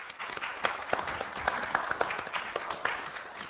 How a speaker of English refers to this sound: And so for that, would we please have applause for these gentlemen and women?